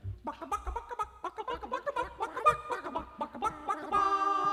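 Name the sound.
rooster crowing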